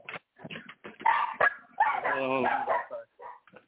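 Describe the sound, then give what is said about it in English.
A phone caller's dogs bark and yelp in a busy, overlapping burst, with one drawn-out, whining bark in the middle, loud, while voices talk in the background. “we can hear your dogs.”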